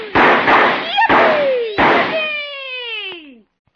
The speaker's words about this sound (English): This looks like as good a spot as any to start the fireworks